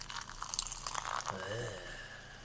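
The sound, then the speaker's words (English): Limited-edition carbonated rosé wine, 11% alcohol, glugs and splashes into a glass, a steady bubbly pour with a fizzing, rising tone as the glass fills, no voices over it. “And the pour.”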